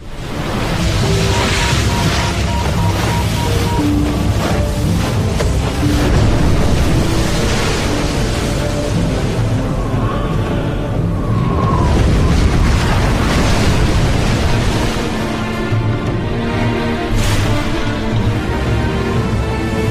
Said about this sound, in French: Pour punir les Atlantes de leur vanité, les dieux ont envoyé une tempête qui a englouti cette île.